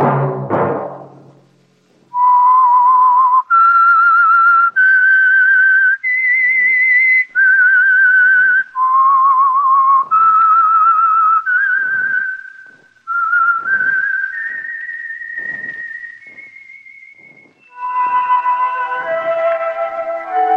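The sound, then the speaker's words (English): A clear, loud whistled melody, stepping up and down in sustained vibrato notes with short breaks between phrases, ending in a faster, more ornamented run. No talking. “Whistle be your signal for the Signal Oil program, The Whistler, each Wednesday night at this same time.”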